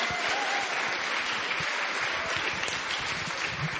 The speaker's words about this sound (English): Good evening once again, ladies and gentlemen. Welcome and thanks so much for coming out to the Powerhouse Arena. How about a round of applause for our event tonight, the launch of You're the Best by the Satellite Sisters.